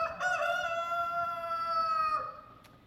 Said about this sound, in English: Even so, Peter swore, "I don't know the man." At almost the same moment, a rooster crowed.